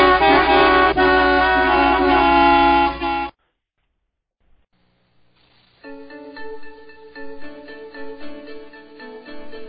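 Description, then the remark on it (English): Several car horns blare together loudly for about three seconds, then stop; after a short silence, more horns start honking again, a bit softer and more uneven. “And don't forget to honk for impeachment.”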